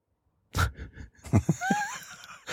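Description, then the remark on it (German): A soft nasal snort, then a quick cluster of three short, quiet coughs, trailed by a faint wheezy whistle in the breathing, fairly subdued. “So leise durch die Nase. Und hustet wieder.”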